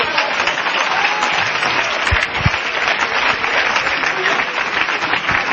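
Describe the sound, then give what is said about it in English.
An audience claps their hands in sustained, dense applause, a loud steady wash of many overlapping claps with no clear rhythm, lasting throughout without any speech. “Somebody ought to clap their hands.”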